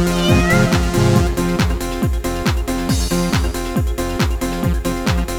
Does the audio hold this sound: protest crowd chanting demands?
no